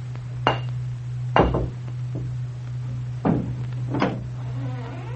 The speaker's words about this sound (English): There'll be twice the noise. Well, take a stone and knock.